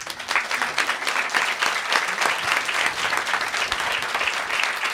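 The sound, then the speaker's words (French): Sustained applause from a large audience, dense and steady for the full five seconds, with many overlapping claps forming a continuous wash of sound. “Je suis sûr que pendant les applaudissements, plein de gens ont lâché des caisses.”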